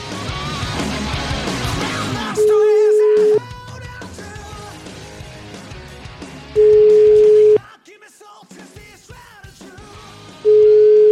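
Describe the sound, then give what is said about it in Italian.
A phone call's ringing tone, placed during the radio segment 'Cruciani chiama Napoli', sounds in steady one-second beeps, repeating about every four seconds, clear and prominent over a busy background of music and voices. “Ragazzi, siamo quasi in conclusione, ma per la serie Cruciani chiama Napoli, sentite questa, Cruciani chiama Napoli.”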